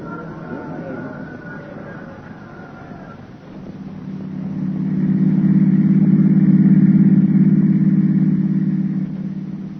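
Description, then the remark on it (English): A car engine hums steadily, then grows louder and deeper around the midpoint as the car pulls away and drives on with a sustained, droning rumble. “Come on, let's get out of this crowd. I've got the card outside.”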